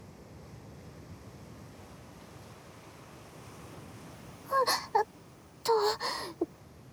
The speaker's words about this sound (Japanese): これはなかなか波が怖くて。波で袖まで濡れて